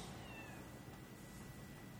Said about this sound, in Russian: Слушай, где там кот мяукает? За окном, естественно.